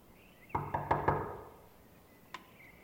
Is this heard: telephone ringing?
no